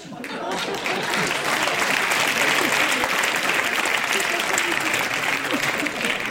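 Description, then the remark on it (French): Sustained applause from an audience after a reading of a literary text fills the whole clip, a dense steady clatter of many hands clapping at an even, fairly loud level without pause. “Pourquoi vous applaudissez un texte totalement ridicule?”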